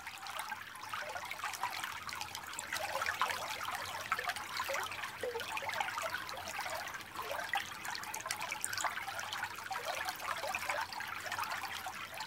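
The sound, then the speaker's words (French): A babbling brook murmurs steadily throughout, a continuous trickle of water bubbling over stones with no voices or other sounds. “pour cela qu'en anglais, le murmure d'un ruisseau se dit « the babbling brook », le ruisseau qui babille.”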